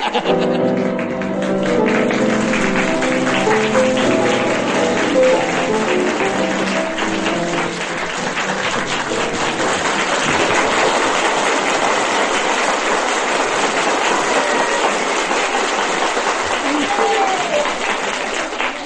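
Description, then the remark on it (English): A huge, loud round of applause, a dense steady roar of clapping that carries on for nearly twenty seconds, with crowd voices and laughter mixed in near the start. “Well, ladies and gentlemen, listening at home, you'll probably wonder why there should be such an enormous round of applause.”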